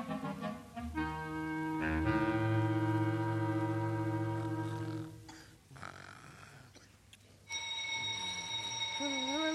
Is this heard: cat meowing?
no